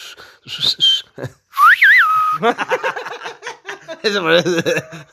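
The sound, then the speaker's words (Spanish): A person whistles a short, sliding tone after a brief earlier chirp, loud, followed by chuckling voices and animated talk. “El que avienta chiflidos.”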